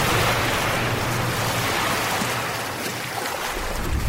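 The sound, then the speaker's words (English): Loud, steady rushing and splashing of water as people plunge into a swimming pool for astronaut training, a continuous churning wash with no distinct pauses and no voices. “Astronaut training starts in a swimming pool? That's right. Everyone in.”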